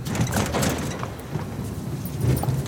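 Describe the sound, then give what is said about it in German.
A large, heavy 30-metre hangar roller door rumbles open for a Beechcraft King Air aircraft, a continuous low grinding roar with scattered metallic rattles and clanks, fairly loud throughout and with no voices. “Und hier hört man das große Rolltor noch einmal richtig gut.”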